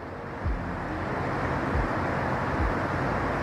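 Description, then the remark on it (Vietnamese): A steady, broad rush of water fills the scene while low engine rumbles surge past a few times, cars driving through flood water outside a flooded shop during heavy rain. “Trời ơi, ô tô đang đi qua.”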